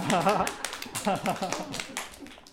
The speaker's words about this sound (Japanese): あ、みんな拍手があったぞ今。